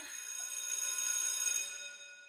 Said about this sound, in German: Und wenn die Schulklingel wieder klingelt, dann ist es Zeit für unsere Partner, die all das hier ermöglichen.